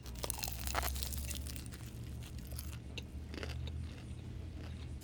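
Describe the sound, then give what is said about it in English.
Crisp crunching bites into a fried egg roll with a cabbage filling, with several sharp crackles in the first second and softer crunchy chewing continuing over a low steady background hum. “All right, I'm gonna try the egg roll first.”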